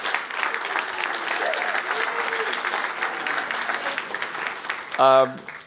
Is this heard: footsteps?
no